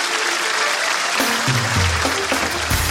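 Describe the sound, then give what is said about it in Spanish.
A crowd applauds steadily for about three seconds, a dense, loud wash of clapping with a few voices rising beneath it toward the end. “Un aplauso para mi amiga, por favor.”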